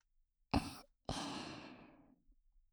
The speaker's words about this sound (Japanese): 私の吐息で一気に飛ばしていきますね。